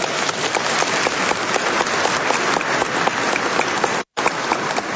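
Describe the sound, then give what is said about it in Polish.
An audience in a church applauds steadily for new Knights of the Mother of God who will pray the rosary; dense overlapping claps without pause, then a brief sudden cut near the end before the clapping resumes. “Gorące brawa dla tych nowych rycerzy Matki Bożej, którzy poprzez modlitwę różańcową będą wypraszać potrzebne łaski.”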